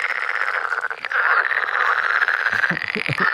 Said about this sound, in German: Ein Frosch oder mehrere Frösche. Das ist richtig. Stimmt das? Das ist richtig. Ein Frosch im Amazonasgebiet.